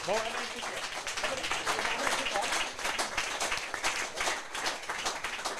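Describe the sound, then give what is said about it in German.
Steady applause from an audience as audience members are called to the front to play along, many hands clapping in a dense, crackling wash that holds at a fairly even level, with a few voices faintly mixed in. “Ein Applaus, sie kommen nach vorne, spielen mit.”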